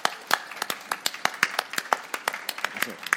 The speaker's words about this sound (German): Nochmal einen schallenden Applaus bitte. Wunderschöne Performance.